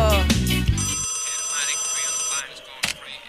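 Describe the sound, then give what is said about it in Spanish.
A bright electronic WhatsApp call ringtone on a phone, a steady high melodic tone, plays for over a second after a brief voice at the start, then stops, followed by a short tap. “Vamos, WhatsApp, que aparezca el WhatsApp.”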